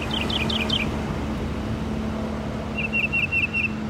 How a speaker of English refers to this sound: For starters, Logan says, a typical male can sing up to 400 different songs. Most, if not all of them, are stolen from other species, making the mockingbird the original Napster.